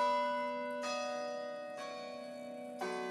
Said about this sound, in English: And every morning from my dorm, I am woken up by campus bells.